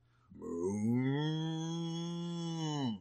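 A cow moos once in a single long, steady, low-pitched call lasting a few seconds, loud, with no talking.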